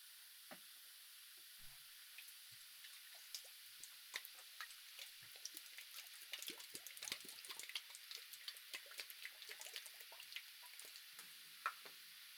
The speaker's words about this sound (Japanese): 聞いたことあるかな？泡が弾ける音、たまらないよね。この音を背景に、私特製の泡をと。